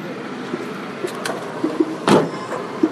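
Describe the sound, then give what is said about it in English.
A couple of soft clicks, then a single solid thud like a car door shutting as a passenger gets into an Uber car in central Jakarta, set against a steady low hum of traffic or engine noise. No one speaks. “On an iPhone app, I order the Uber car. It arrives in 4 minutes.”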